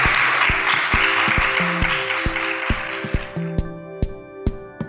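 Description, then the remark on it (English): A crowd applauds the panelists in a dense wash of clapping that fades out after a few seconds, while a steady beat of music with sustained tones continues underneath and then plays alone. “Please give our excellent panelists a round of applause.”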